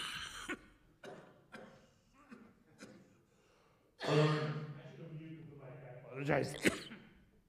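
A string of short, sharp coughs comes in quick succession, then a louder, longer harsh cough and another strong burst as someone clears their chest.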